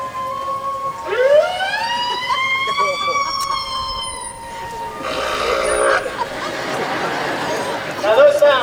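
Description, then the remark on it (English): A whale named Candy makes a long, rising, siren-like squeal through her blowhole, rich in harmonics and lasting a few seconds, then crowd chatter takes over before a brief upward chirp at the end. “She can make a variety of sounds out of her blowhole.”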